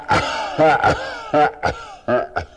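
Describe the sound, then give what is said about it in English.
A voice imitates a giant whale's deep, booming coughs: about seven loud, throaty bursts in quick, uneven succession, heavy, with no other talking. “Just as they began to sink, the sound of great coughing filled the air.”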